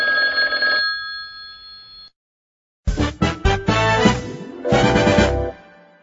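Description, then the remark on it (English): A telephone rings loudly: a steady electronic tone, a brief silence, then a series of rapid, insistent ringing bursts. No one speaks. “I hear something. The phone is ringing.”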